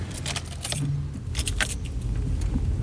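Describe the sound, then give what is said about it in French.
Keys jingle in a few quick bursts while a car engine rumbles low and steady underneath, as a GPS-tracked work car starts up and sets off. No one speaks. “Je prends maintenant la voiture du travail.”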